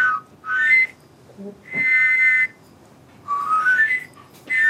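Four airy, breathy whistle tones from a bone pigeon whistle blown by mouth across narrow bone slits protruding from its main body like bagpipe reeds, each swelling and fading with short quiet gaps between, fairly loud with a reedy, multi-pitched shimmer.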